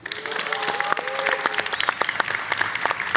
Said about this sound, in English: Joo-hyung has his own cheering section.